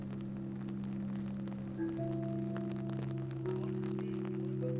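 A National Park Service simulation of the Flight 93 National Memorial wind chimes in Somerset County, as they will sound when all are in place: overlapping, sustained tones, with new pitches entering every second or so over a soft crackling patter. No one speaks, and the layered ringing stays steady and moderately loud.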